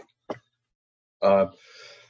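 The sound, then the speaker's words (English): A single sneeze: a quick sharp intake of breath, then a loud voiced burst that trails off into a hissy, breathy exhale. There is no talking. “I'm yawning and sneezing.”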